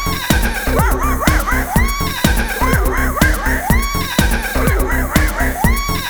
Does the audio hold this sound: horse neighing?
yes